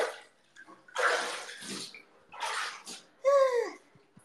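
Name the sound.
bath water splashing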